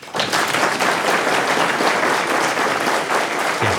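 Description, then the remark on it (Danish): An audience in a hall bursts into steady, dense applause to show how many believe they can recite the Lord's Prayer, many hands clapping at once and sustained at an even loudness for a few seconds before trailing off. “Lad mig lige høre her ud i salen, bare med en klapsalve, hvor mange af jer vil tro, at de nogenlunde kender og kan recitere Fadervor.”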